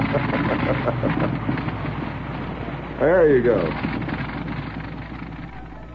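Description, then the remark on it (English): A recorded vintage biplane engine drones steadily and loudly throughout, a rough low rumble that never lets up, with a man's voice briefly speaking over it partway through. “I've got the sounds of other aircraft engines of the period.”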